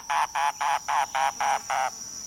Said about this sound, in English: listening on Key West to mangrove cuckoos and gray kingbirds.